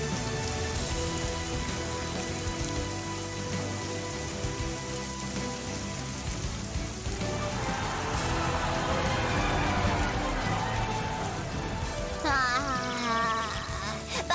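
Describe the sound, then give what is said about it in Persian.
Steady rain pours down continuously, a dense, even hiss of drops spattering on surfaces, with sustained musical tones playing underneath and no one speaking. The rain was brought on by All Might's punch changing the weather. “با یه مشت خفنده میشه بارونی به ما کرد.”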